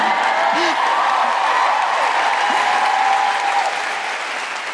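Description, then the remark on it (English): A crowd claps and cheers steadily during a speech, a dense wash of applause with scattered whoops rising above it, holding loud for several seconds before easing off slightly at the end. “feel free to cheer and clap.”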